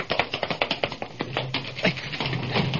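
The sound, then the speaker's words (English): Quick, sharp taps on the only door of a laboratory room in a steady, rapid series, crisp and moderately loud, running for about three seconds with no voices, a low hum creeping in toward the end. “Tap the door.”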